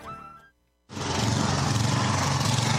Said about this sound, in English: Experience the ultimate in snow removal with Cub Cadet snowblowers from McFarland's. Engineered for performance and durability, Cub Cadet snowblowers are designed to make your winter easier.